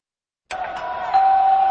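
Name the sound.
doorbell ringing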